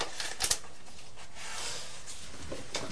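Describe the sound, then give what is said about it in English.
Crisp snips of scissors cutting round the Teletubbies on Teletubby paper, a few sharp clicks mixed with papery rustling and scraping, with no voices. “And then you could cut round the Teletubbies, couldn't you? There you are. How do you cut? You cut round there.”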